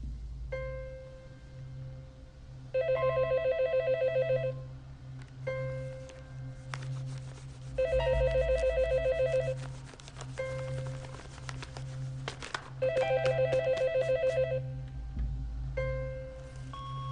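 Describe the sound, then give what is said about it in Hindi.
A telephone bell rings unanswered in a home, in three trilling bursts, each about two seconds long, separated by pauses of a few seconds, clear over a low background hum. “Hello hello, phone उठा ले, जानता हूँ कि आप घर में हैं।”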